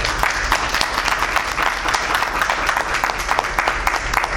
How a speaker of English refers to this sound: But I'm going to give a big, big round of applause for the officer that sometimes people see him as an unbelievable officer.